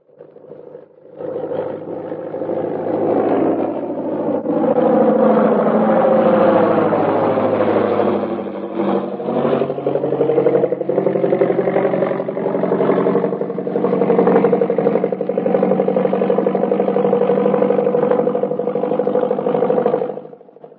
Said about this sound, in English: Here comes the plane. We'd better stand where we can get a full view of everybody getting off.